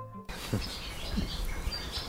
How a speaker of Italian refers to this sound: Siamo pieni di rondini?